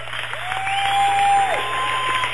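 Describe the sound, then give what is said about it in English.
A basketball crowd of Unitigo fans cheers and claps in a steady, dense roar of applause, with a sustained whistle-like tone rising over it before dropping away, in the final seconds of a game Unitigo wins 51-41 over Sydney. “I think you can hear the fans for Unitigo.”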